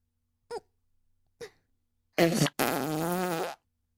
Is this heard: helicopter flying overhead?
no